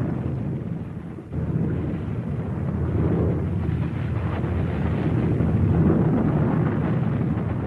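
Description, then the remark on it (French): A deep, continuous rumble as the two shock waves from the blast reach the planes, rolling over a droning aircraft while a camera plane circles above the Enola Gay and the Great Artist; loud and heavy, with a brief dip early on before the roar swells and holds steady. “les deux ondes de choc produites par la déflagration atteignent les avions”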